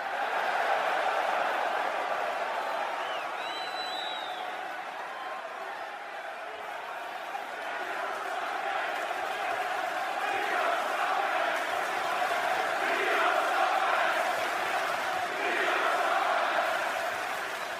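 A large audience at a live performance roars continuously for the whole stretch, a dense wash of shouting, cheering and chatter that swells and dips, with scattered whoops and a few sharp whistles rising above it.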